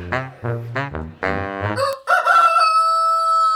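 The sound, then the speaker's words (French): Several short clucking calls lead into a loud, drawn-out rooster crow, its final note held steady and strained. “Il y avait un coq et il y avait plusieurs poules.”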